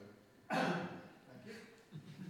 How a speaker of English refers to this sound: excuse me, I'm going to cough again.